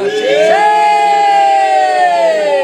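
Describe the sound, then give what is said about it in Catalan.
A loud, sustained cheer and applause from an audience for Bob, the street cat, entering the bunker, swells upward and holds steady for a couple of seconds, dominated by a long, ringing whoop-like shout. “Fort aplaudiment... Més fort que de costum, perquè s'ho mereix.”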